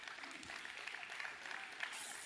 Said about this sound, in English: Y'all come give a big round of applause today in Jesus' name.